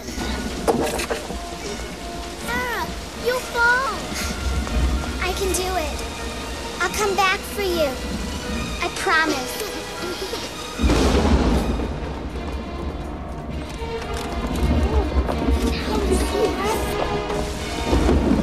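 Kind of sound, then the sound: nature, pouring rain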